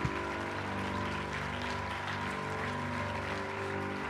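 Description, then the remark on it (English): An audience applauds steadily for several seconds, a dense wash of many hands clapping at an even level, with sustained organ-like tones humming underneath. “Let's give him one more round of applause.”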